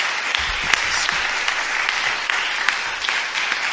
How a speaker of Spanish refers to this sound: después de su exposición, se merece un aplauso. Muchas gracias.